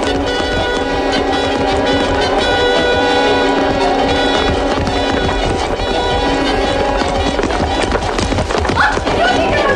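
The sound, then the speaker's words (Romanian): Many horses of a cavalcade gallop past at full speed, a loud, dense drumming of hooves that continues without a break, with voices and shouts mixed into the din. “Puntea cavalcadii galopează Henric, în urma sa, marchiza Matilde, la un gât de cal, baronul de credit.”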